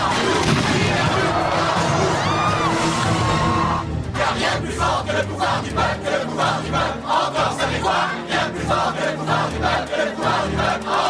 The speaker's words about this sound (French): Manifestants! Les rues de Seattle sombrent dans le chaos.